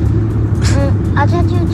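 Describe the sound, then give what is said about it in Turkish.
Steady low engine rumble and road noise fill the cabin of a moving car on the way to a performance, with a voice speaking briefly over the hum. “Şu anda biz arabadayız, gösteriye gidiyoruz.”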